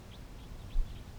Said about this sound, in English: So recording, it's 9:47 now, and about 15 minutes ago, a group of four Type 2 crossbills arrived on the scene.